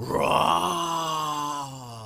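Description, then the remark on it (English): Voices let out a long, groaning roar in imitation of thunder during a storm in a told story, one sustained vocal rumble lasting about two seconds, strong at first and then easing off. “And the thunder began to roar.”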